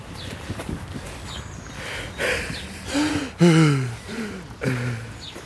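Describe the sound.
Heavy, strained breathing in repeated wheezy bursts, two men imitating how they will pant and groan at age 80, with several rasping exhales that rise and fall over a few seconds, outdoors in a park on the Kreuzberg in spring.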